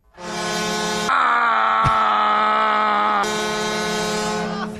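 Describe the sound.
A voice imitates a hockey goal horn with one long, loud, steady buzzing blare that holds a low pitch for nearly five seconds, briefly shifting tone midway, with no other talk.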